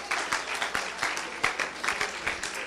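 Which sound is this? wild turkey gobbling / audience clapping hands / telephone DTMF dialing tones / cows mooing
audience clapping hands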